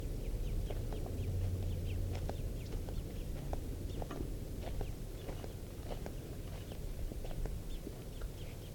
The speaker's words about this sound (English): It may just be two birds, the parent and the young.